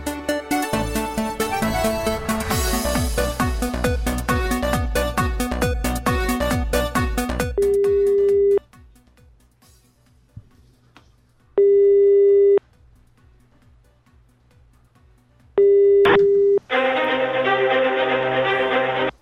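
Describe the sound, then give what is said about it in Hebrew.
Loud, busy music gives way to a phone line's ringing tone as a call is placed to the Bnei Brak municipality: three long, steady, mid-pitched beeps spaced about four seconds apart with near silence between, then the music returns. “אוקיי, אז שמע, בוא נחייג לעיריית בני ברק”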